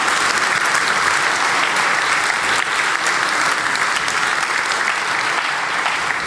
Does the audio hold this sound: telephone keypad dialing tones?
no